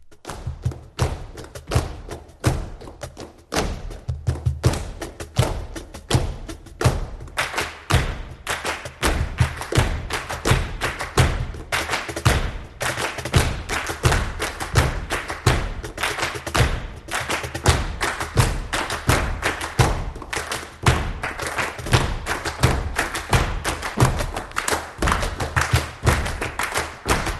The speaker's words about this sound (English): capoeira dancer, Brazilian dance with pulsating rhythms here. You see a variety of percussion, rhythmic hand claps.